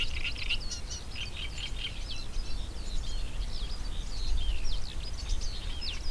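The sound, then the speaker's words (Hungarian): A Eurasian reed warbler sings beside a reed bed, a continuous, chattering run of scratchy, repeated notes, steady throughout, over a low outdoor rumble with no voices. “És amikor a Tiszatónál voltunk, akkor is ugyanez a nádi poszáta volt hallható.”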